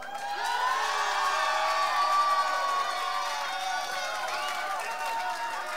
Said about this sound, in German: Habt ihr noch einen fetten Applaus?